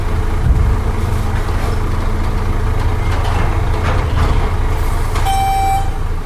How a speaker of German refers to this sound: Jeden zweiten Donnerstag fährt die Müllabfuhr die Straßen entlang und wirft tausende gelber Säcke voller Plastik in das Fahrzeug.